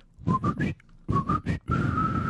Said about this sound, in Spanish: Cómo lo logran, o sea, con tan mal nivel de chiflido se alcanza a escuchar.